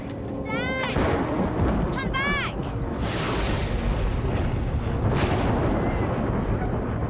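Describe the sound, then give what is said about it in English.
A loud, steady roll of deep thunder from a storm with streaks of lightning rumbles throughout, with two short bursts of high, wavering chirps early on layered over the booming noise. The storm is over a jetty and a fishing boat. “The thunder and streaks of lightning make the man check the skies again.”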